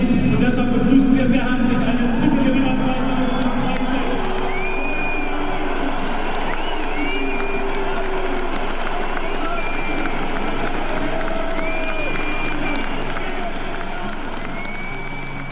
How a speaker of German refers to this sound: Philipp Lahm war dabei, der aber mit Pfiffen und Buhrufen empfangen wurde.